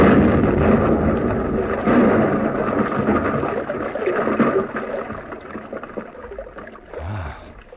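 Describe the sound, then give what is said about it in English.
A blasting charge in a tunnel is set off by pressing the handle of a wired exploder: a loud, deep roar that rolls on for several seconds as a broad rumble, slowly fading, with a brief low thud near the end. “The two men disappeared up the gallery, and I was left alone to explode the charge.”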